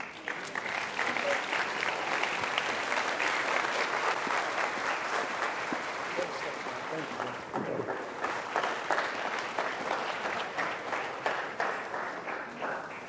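Sustained audience applause, a dense wash of many hands clapping steadily for over ten seconds, thinning slightly into more distinct individual claps toward the end.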